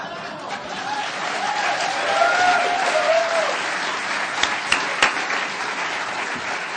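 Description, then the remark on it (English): A crowd applauds steadily, a dense wash of clapping that swells slightly midway, with a few brief whistles or cheers rising above it and some louder individual claps near the end. “Everybody applause.”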